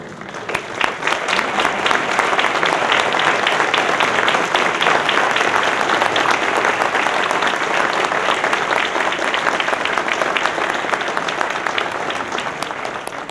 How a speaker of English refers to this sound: I want to ask the members of the AAP Advisory Council, past and present, if they would please stand so we could give them a round of applause.